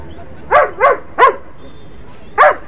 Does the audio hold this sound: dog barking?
yes